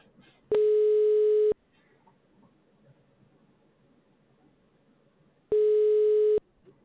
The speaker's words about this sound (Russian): Абонент сейчас не может ответить на ваш звонок. Его телефон занят. Попробуйте перезвонить позднее.